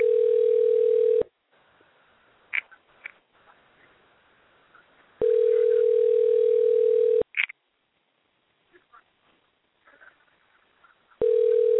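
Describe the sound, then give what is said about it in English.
A telephone ringback tone on an outgoing call placed for a radio show: a steady, mid-pitched electronic buzz sounds for about two seconds, then long silences, repeating three times with faint line clicks in the gaps. “Hey, man, I just called you for my radio show, man.”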